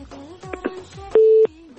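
telephone tone

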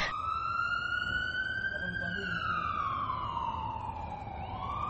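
ambulance siren

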